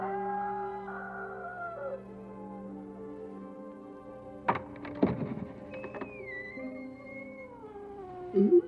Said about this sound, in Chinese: 彼得啊，有人在开门吗？ 是啊，是耶稣，他刚开门出去。